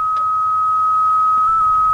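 A steady, high-pitched electronic beep drones without a break for about two seconds on a phone line after calling a theater's number, with faint low rumbling beneath it and no voices.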